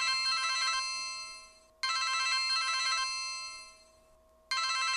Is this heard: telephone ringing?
yes